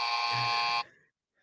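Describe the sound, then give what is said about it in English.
A loud, steady electronic buzzer sounds for just under a second with a harsh, tone-rich drone, then cuts off abruptly into a brief fading tail and silence. “Oh, wait. Buzz me.”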